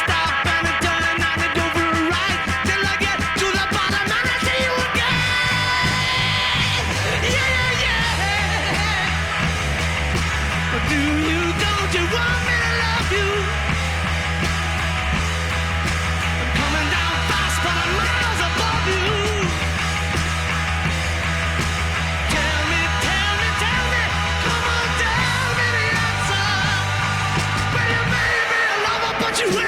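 A loud, raw rock song with distorted guitars, pounding drums and a steady bass line, topped by hoarse, shouted vocals that keep the energy high throughout.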